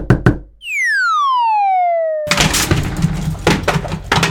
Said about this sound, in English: but you told me to knock louder next time.